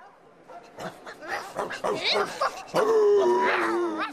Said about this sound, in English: A dog show. This is fun. Woof